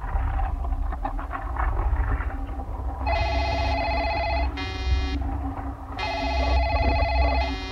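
A picture phone rings in bright, buzzy electronic bursts, three rings in quick succession with short gaps, clear over a steady low rumble in the background, as Mickey calls Kermit the Frog.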